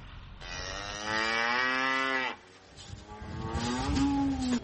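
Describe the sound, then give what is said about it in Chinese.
Cattle on a farm moo twice: a long, loud, drawn-out low bellow, then after a short pause a second moo that rises slightly in pitch, over a faint rumbling background. “洪水退去后，很多表层土壤变成了泥浆，盖斯勒只能走过去，或是开着拖拉机去喂牛。”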